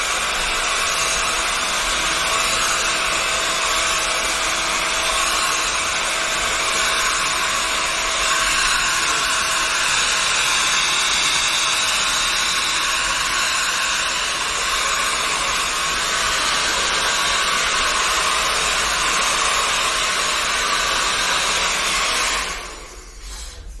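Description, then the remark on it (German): A hair dryer blows steadily with a loud, constant whooshing drone for over twenty seconds, then shuts off abruptly near the end. “Jetzt kommt noch mal ein bisschen eine Föhnung.”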